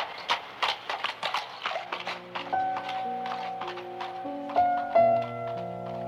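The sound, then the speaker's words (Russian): A horse's hooves clip-clop at a steady trot, crisp, as a hired one-horse carriage moves on a warm, misty moonlit night; after a couple of seconds, sustained music swells in and the hoofbeats continue beneath it. “За Маргаритой приехала наемная каретка в одну лошадь.”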